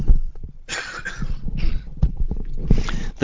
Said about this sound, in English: So coinciding with that, I'm just going to take the headset off for a moment and just have a quick cough.